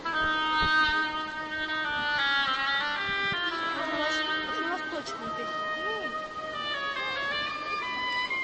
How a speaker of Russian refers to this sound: Так, следующий персонаж у нас будет утка, инструмент гобой, пожалуйста.